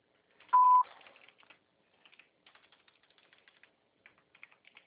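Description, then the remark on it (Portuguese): A steady patter of light computer keyboard keystrokes in irregular bursts, following a single sharp electronic beep at the start. No one speaks. “Ah, esse teclado da Papa Crédito é ruim.”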